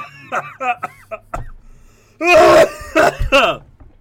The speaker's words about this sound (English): That was a real cough. Oh, my God.